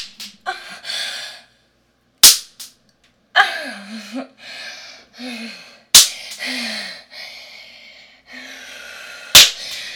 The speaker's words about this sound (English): The way I tense up when you spank me.